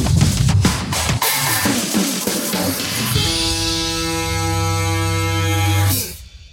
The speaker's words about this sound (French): Et un jingle super fun pour une émission, un podcast de tech. Un jingle super fun.